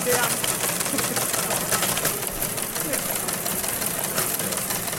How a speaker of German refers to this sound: Das ist eigentlich ein alter Fernschreiber, den wir jetzt hier angekoppelt haben, dass man da SMS hinschicken kann und der druckt die dann aus.